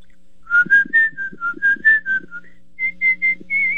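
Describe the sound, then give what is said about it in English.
A person whistles a short, lilting tune, clear, with a string of bright notes rising and falling before a brief pause and a few more held notes. “No, I whistle. Could you give me a little demo?”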